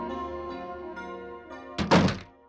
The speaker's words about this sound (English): opens the door.